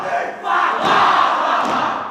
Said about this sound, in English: A traditional war cry echoes throughout a theatre in Sydney.